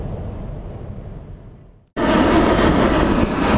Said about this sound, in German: So, man kann es unschwer hören. Wir sind in Frankfurt, über uns irgendeine Maschine im Landeanflug.